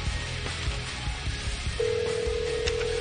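A telephone number is being dialed: after a second or so of low background rumble, a steady electronic phone tone comes in and holds to the end. Nobody speaks.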